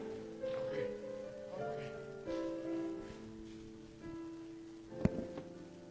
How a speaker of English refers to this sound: Come on, y'all. Let's give him another hand clap of praise.